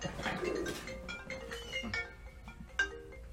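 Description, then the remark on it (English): A phone rings with an incoming call from a sister, a melodic electronic ringtone of bright tonal notes repeating over a few seconds at moderate volume, with no one speaking. “10 things are ringing here.”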